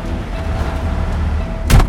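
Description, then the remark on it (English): A heavy semi truck engine rumbles steadily, then a sharp, loud hiss-and-thump burst near the end as the truck pulls out after dropping its trailer at an assigned loading door. No one speaks. “Drop our trailer and pull the truck out.”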